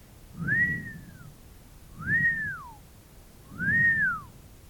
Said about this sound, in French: Il siffla trois coups.